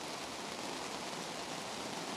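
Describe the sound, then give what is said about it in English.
Steady, even rain falls outdoors on people gathered at a public question-and-answer event, a soft continuous hiss of drops with no pauses or voices, fairly quiet and diffuse. “If you could move forward, I think there's some people we could help in from the rain.”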